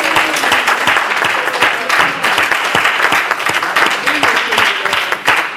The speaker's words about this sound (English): Let's take time to give a hand clap of praise to the Lord.